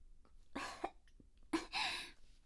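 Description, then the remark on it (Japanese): A burp comes out in two short, breathy bursts, one and then a longer second one about a second later, with no talking around them. “すいません、ちょっと今日は別にゲップを聞かせるつもりはないので、ゲップはなるだけ控える感じでいきます。”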